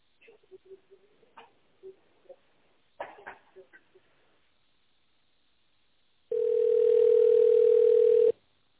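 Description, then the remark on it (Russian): A single steady, mid-pitched telephone ringback tone sounds loudly for about two seconds while waiting for an answer after an automated office phone greeting, preceded by faint, muffled, choppy sounds over the phone line and a brief pause. “Если вы знаете добавочный номер сотрудника, наберите его в тоновом режиме или дождитесь ответа.”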